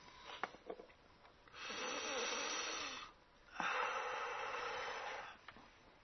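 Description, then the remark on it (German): Two long, deep breaths taken as a breathing exercise, a slow airy inhale followed after a short pause by a full exhale, with no talking. “Also, einatmen, ausatmen, weit werden.”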